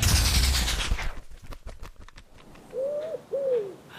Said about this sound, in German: Ihr werdet es mir nicht glauben. Die weiße Taube ist direkt vor mir gelandet und hat einen kleinen Zettel um das Bein gebunden.